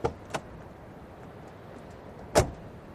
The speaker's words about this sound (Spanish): Cuando salíamos del ministerio, relativamente satisfechos, vimos un auto que se detenía en la puerta y de él bajaba el ministro.